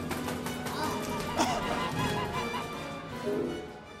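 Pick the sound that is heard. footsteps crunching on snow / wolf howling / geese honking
geese honking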